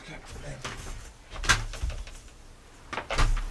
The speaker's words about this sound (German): Ganz schön warm hier drin. Mhm. Ich mach das Fenster auf.